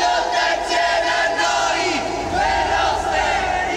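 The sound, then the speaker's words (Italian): A large crowd chants together in rhythmic unison, loud and sustained, many voices rising and falling in repeated shouted phrases for several seconds. The crowd is crying "Peppino è vivo e lotta insieme a noi" as the coffin with the remains of Peppino Impastato arrives. “Un grido all'unisono si sollevò.”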